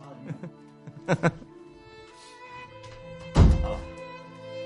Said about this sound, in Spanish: Espera, que cierro la puerta, que se ve el trastero.